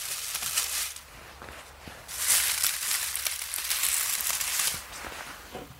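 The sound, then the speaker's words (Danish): An adder hisses in long, breathy bursts of airy noise, swelling louder for a couple of seconds at a time between softer rustling and faint crackles, with no talking. “Og man kan jo allerede høre her, at slangen altså har ret meget respekt for mennesker, eller du skal i hvert fald ikke alt for tæt på, før at du kan se, at den har lyst til at forsvinde.”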